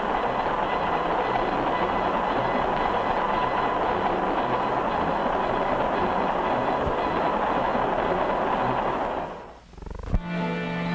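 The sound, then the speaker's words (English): A passenger train rolls steadily along the rails with a dense, continuous roar and rumble, then briefly dips and shifts to a harsher, ringing tone near the end. No one speaks. “Always remember that you're traveling the safest and soundest way there is to travel when you travel by train.”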